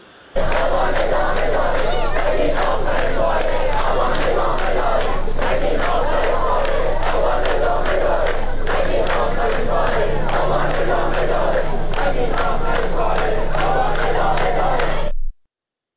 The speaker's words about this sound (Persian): ویدیویی داریم باز از زاهدان که دارن شعار این رو میدن که هی نگین این تموم آبان ادامه داره. بشنویم صدا رو با هم.